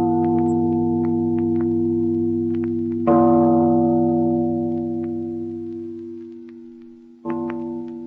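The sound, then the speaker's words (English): A large bell in a tower rings with a deep, humming tone that lingers and slowly fades, struck again twice so fresh clangs swell over the sustained resonance. No voices are heard. “Father, listen to the bell. Listen to the bell. It rings in spite of her.”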